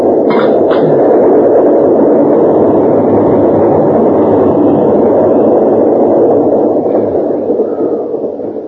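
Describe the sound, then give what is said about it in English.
A tunnel rail car comes fast along the tracks and rushes past in a loud, steady rumbling roar, with a brief high squeal near the start. The noise holds for several seconds, then begins to fade at the end. No one speaks. “Tunnel car is coming pretty fast, sir.”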